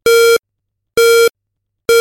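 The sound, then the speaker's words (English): Three loud electronic beeps in a steady rhythm, each a flat, buzzy tone lasting about a third of a second, separated by silence, with the third cut off at the end; a countdown cue marking when to push play. “When you hear the third beep coming in right now, it's time to push play.”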